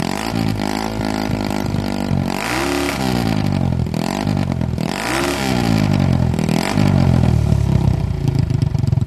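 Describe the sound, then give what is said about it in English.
A single-cylinder motorcycle engine, made in Italy by a partner company of Harley-Davidson between 1961 and 1978, runs steadily and loud, its rev rising and falling in repeated swells with a throaty, chugging exhaust note and no voices. “So if you go to our singles, there's several in here, but one of them is, believe it or not, we made from 1961 until 1978, we were partnered with a company in Italy, and they made some Italian-made singles, so we'll take a listen to one of these.”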